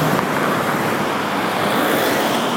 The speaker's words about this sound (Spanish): Así que bueno, quería hacerles escuchar un poquito el sonido del pavimento, el sonido de los camiones, el sonido de los motores, el sonido de las ruedas pasando. Es realmente impresionante.